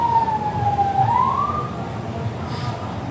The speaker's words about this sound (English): For once, auspicious sirens. Usually sirens bring nothing but misery, but these sirens bring rather auspiciousness.